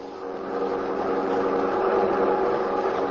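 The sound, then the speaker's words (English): The engine of a black Buick sedan carrying fleeing convicts hums steadily as it drives along the road to Tunica, a continuous mid-pitched drone with a faint rumble, unbroken, with no voices. “are now fleeing in black Buick sedan along road to Tunica.”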